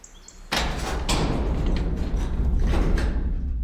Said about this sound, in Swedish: Dörren gnydde och bakom den öppnades ett mörker.